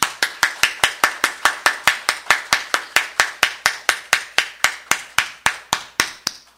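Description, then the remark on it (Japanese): An audience claps in thanks to the Lord to begin worship, in steady, even rhythm, roughly four sharp claps per second for over six seconds, bright and crisp, with no voices. “それでは、ご臨在の主に心からの感謝の拍手を持って礼拝を始めてまいりましょう。”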